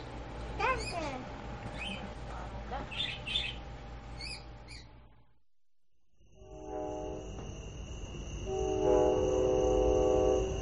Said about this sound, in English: That was the show train heading home.